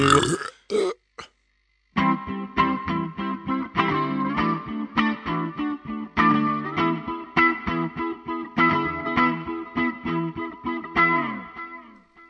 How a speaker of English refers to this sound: Seriously, my burps could become ringtones. Right. Or SMS tones.